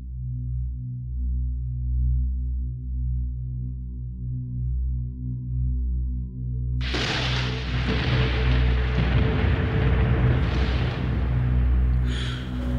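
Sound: rain falling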